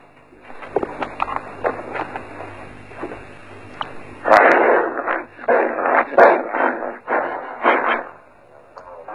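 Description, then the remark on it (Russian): A person imitates a rabid dog, howling and yelping in a quick series of loud bursts that swell after a quieter, scrappier start. “Он вел себя так, как будто его искусала бешеная собака. Он прекрасно выл и кусался.”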